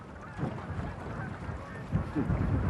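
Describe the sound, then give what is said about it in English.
A flock of arriving geese honks continuously, many overlapping calls rising and falling, with a steady outdoor background rumble beneath them. “I think I hear some early birds arriving now. Today, we're on a wild goose chase.”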